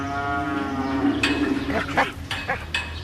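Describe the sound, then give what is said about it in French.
A cow in a farm barn lets out a long, low, drawn-out moo, exchanging calls with the house dog, followed by a few short, sharp bursts of noise as the call fades. “Échange d'amabilité entre la chienne de la maison et les vaches.”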